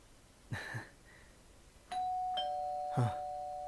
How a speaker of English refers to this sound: Huh. Oh. It's your doorbell. Could it be your parents? I thought you said they were out.